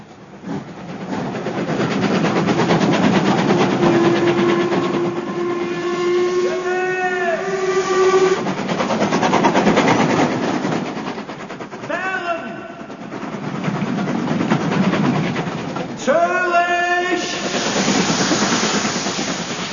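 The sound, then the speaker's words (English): A train bound for Dover rolls along with a steady rumbling roar, while several whistle blasts sound over it, one long drawn-out call followed by two shorter ones later on. “And so we took the train to Dover and thence crossed to the continent.”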